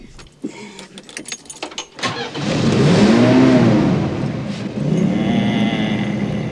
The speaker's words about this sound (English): Then, grinning, Grandpa turns on the ignition.